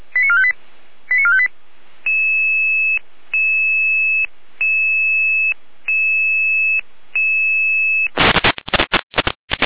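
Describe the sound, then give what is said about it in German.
Radio dispatch alarm tones: two quick bursts of stepped call tones, then a series of five long, steady electronic tones separated by brief gaps, ending in harsh crackling radio static. “Leid 10 Alarmruf.”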